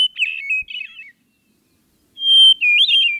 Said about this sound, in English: I'll put you out of your misery. It's actually the hermit thrush. Right. The giveaway is the first strong note of the song. Hermits start out loud